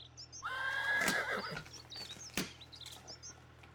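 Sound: horse neighing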